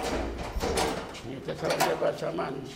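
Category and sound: household object, door being opened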